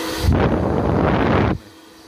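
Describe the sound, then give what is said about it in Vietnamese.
A black hair dryer, switched on to its air-only setting without heat, blows air in a loud, steady whoosh, switching on abruptly and cutting off after little more than a second, with no voices. “Và khi các bạn bật này, các bạn bật thì này không thì là chỉ chạy gió này”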